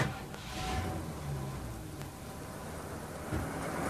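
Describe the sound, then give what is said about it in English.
A truck engine rumbles low and steady as the protection truck starts to pull away, with a broad mechanical roar and a couple of brief clunks, no voices. “So this truck will be our protection.”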